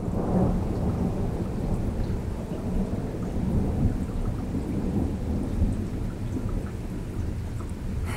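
nature, thunder and rain

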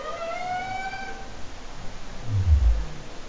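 animal, humpback whale song

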